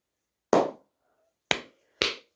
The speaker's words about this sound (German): Ich habe, glaube ich, die lauteste Art zu klatschen rausgefunden.